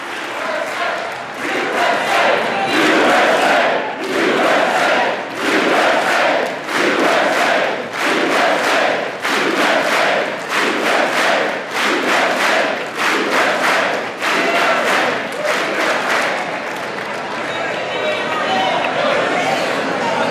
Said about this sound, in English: This is women in the chamber on their feet, including all those Democratic women who turned out in white tonight, applauding the record number of women among their ranks at this State of the Union address.